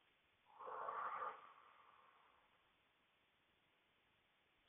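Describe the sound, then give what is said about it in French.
A single loud, forceful breath from a woman pushing during a labor contraction, a sharp exhale with a slightly snorting edge that fades over a second or two into near silence. “Contraction arrive et je vais pousser avec la respiration de mon choix. Je ventile.”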